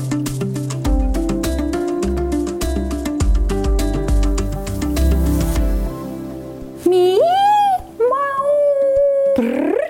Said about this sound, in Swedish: Att en katt kan spinna, jama, fräsa och morra, ja det vet vi. Men en katt kan också gny, jämra, kurra, kuttra, kvittra, grymta, mumla, spotta, yla, tjattra, pipa, drilla och göra en massa andra läten för att kommunicera.